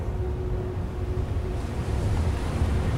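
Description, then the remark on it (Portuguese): Steady ocean surf churns under strong, gusty wind buffeting the microphone at an island where a boat is being anchored at nightfall, a dense low rumble that swells louder in the second half, with no voices present. “Eu ancorei nessa ilha, o tempo já estava bem escuro, estava ventando bastante. As ondas me dificultou um pouco eu chegar nessa ilha para atracar meu barco ali.”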